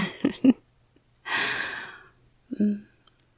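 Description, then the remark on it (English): Close, intimate breathing right against the microphone: a long, airy exhale in the middle, framed by short, soft voiced breaths and murmurs before and after, with quiet pauses between. “Maybe you can feel my breathing.”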